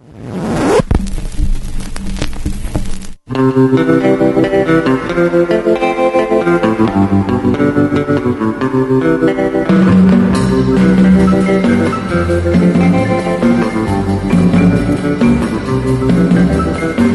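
A recorded song plays at full, steady loudness: dense band music with sustained harmonic tones and a driving beat, briefly cutting out near the start before continuing without any talk.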